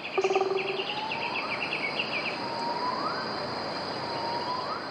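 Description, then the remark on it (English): In a forest, a white-handed gibbon gives three clear, rising whistles spaced about every couple of seconds, over a steady hiss of insects and a few quick bird chirps at the start. “That whistle is likely the sound of the white-handed gibbon, Edward says, and he sent us this recording of the call.”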